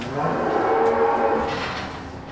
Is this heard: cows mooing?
yes